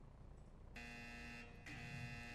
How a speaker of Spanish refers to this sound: Está sonando una alarma. Alarma de VIH.